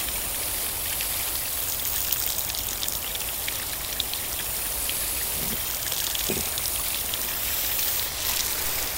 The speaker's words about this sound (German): Man merkt hier die unterschiedlichen Sounds, das ist als Wasser, Luxus, Ecke. Wasser aus 1 Meter Höhe